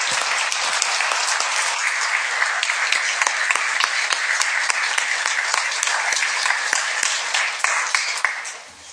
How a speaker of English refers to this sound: We are privileged with the absolute wonderful presence of former Speaker Val Rausch. Give Val a big hand of applause.